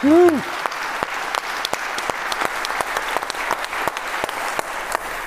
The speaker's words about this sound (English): Thank you, audience, for participating in asking some questions. Unfortunately, we're running out of time. And I would say a big applause for the three here.